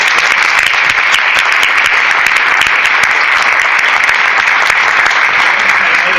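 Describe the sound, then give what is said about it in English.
A crowd applauds the students steadily for about six seconds, a loud, dense wash of clapping hands that holds an even level from start to finish with no voices standing out. “Round of applause for their”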